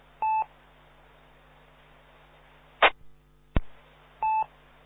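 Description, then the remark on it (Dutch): Two short, steady electronic beeps of the one o'clock hourly time signal, each a blend of a mid and a higher tone, sound about four seconds apart, with a couple of sharp clicks in between and no talking. “We hebben ook net de klok van 1 uur gehad.”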